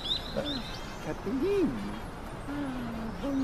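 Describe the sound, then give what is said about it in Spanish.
A pigeon coos in the Super Mario video game as it lands on Mario's nose in the city, short, low, rounded calls, a few soft hoots spread across a couple of seconds, with faint higher chirps early on and a steady game-like background. “Vale, se nos acaba de poner una paloma en la nariz.”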